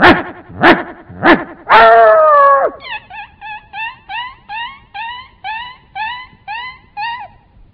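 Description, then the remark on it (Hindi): A performer's voice imitates a dog struck by a thrown stone: three sharp yelps, a drawn-out wailing cry, then a quick, steady run of a dozen short, high whimpering yips fading off as it runs away, loud. “उसको गुस्सा आया, ये गा रहा है कुत्ते की आवाज निकल रहा, बाजू से पत्थर लिया मारा, कुत्ता मार खा के भागता है, उस समय की आवाज सुनाई देती है”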